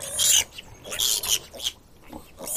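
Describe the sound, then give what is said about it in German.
Pigs and three piglets on a meadow behind a fence grunt and snuffle contentedly while rooting and wallowing in mud, in a run of short, breathy bursts, fairly loud, with brief pauses between them. “Hör mal, wie zufrieden die grunzen.”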